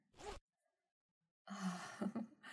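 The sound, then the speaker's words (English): A zipper on someone's clothing being undone from behind: one quick short zip, a second of silence, then a longer, rougher, ratcheting pull that slows and catches near the end. “Now, just let me get behind you and undo your zipper.”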